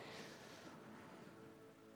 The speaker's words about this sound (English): And Lord, right now, even just hearing that rain pour down, Lord, I pray, Holy Spirit, that you would pour down on your people this Christmas.